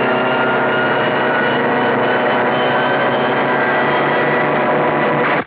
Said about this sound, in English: The other pilot struggles to regain control of his plane, but to no avail, as it plummets from the sky.